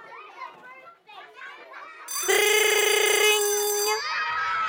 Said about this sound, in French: La cloche sonne enfin.